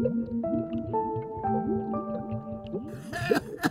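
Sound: water bubbling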